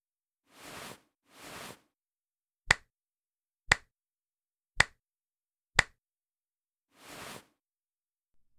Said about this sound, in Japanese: ああ、お参りの仕方はね。二礼四拍手一礼。そう、四回っていうのが少し珍しいね。